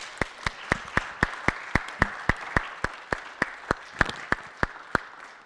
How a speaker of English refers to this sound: A round of applause for all these panelists, please.